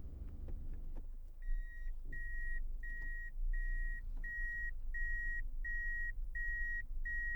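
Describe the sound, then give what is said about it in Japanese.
A steady series of about nine evenly spaced high-pitched beeps sounds over a low rumbling car engine as a car is reversed into a parking space, with a few soft knocks early on. “そこの駐車場に車を車庫入れで止めてください。”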